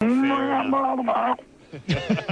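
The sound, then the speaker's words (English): A person imitates a drowning cow with a long, loud, drawn-out moo lasting over a second, then after a brief pause makes a few shorter, choppier vocal sounds. “Have you ever drowned a cow”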